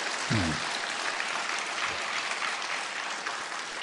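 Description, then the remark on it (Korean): A church audience claps together for the preacher in a steady, sustained burst of applause for several seconds, with a brief low vocal murmur near the start. “이렇게 열심히 시간 잘 준비하고 있다고 그러면 좀 감사하다고 박수라도 치던가 좀 격려하던가.”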